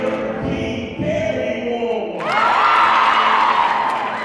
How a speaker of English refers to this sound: The energy in the room is electric. Everyone is stomping and cheering.